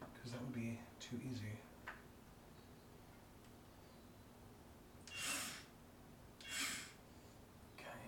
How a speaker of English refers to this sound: So we got a little, it's like a screwdriver. It's like a drill, but we don't call it a drill.